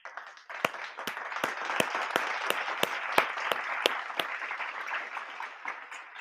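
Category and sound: crowd, clapping applause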